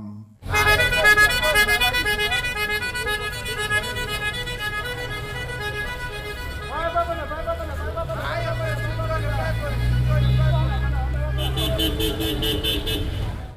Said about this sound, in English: but they also do that with the car horns. So when they buy these buses, they customize the horns or they change these horns. It's not going to sound like your regular kind of horn.